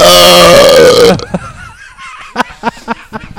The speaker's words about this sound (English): Every episode has to have … burping.